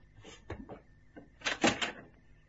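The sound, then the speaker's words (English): A door to a yard opens: a couple of soft clunks from the latch, then a louder, rough scraping swing that lasts about half a second before fading. “The door to the yard opened.”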